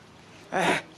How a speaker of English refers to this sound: Bless you. Bless you. God bless you.